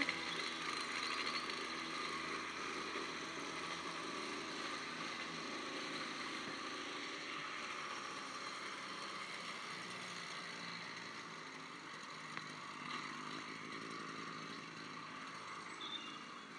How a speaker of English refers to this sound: It's those petrol lawnmowers, I think.